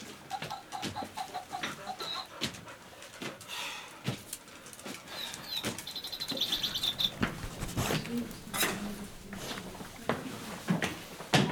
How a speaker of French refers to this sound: Qui font de la musique, j'ai un perroquet. Ah bon ? Il répète tout, j'ai un oiseau qui chante. Regardez.